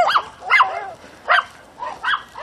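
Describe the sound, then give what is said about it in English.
A dog barks four times in short, high-pitched yips, spaced unevenly over a couple of seconds, against a quiet background with no one talking. “Anybody hear dogs? Is there a dog someplace?”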